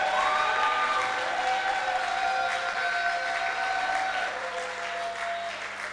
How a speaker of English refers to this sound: So if you believe that where you are, God is able to visit you and turn things around and provide more than enough, can you clap to his glory?